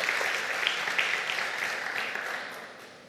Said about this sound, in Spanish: Démosles un aplauso a los candidatos. Gracias a Dios por ellos.